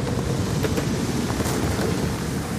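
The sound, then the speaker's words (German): Steady, strong wind roars over rolling sea waves as the wind grows stronger over deepening water, a dense, continuous rush of noise with low rumbling gusts and no voices. “Der Wind wird stärker, das Wasser tiefer.”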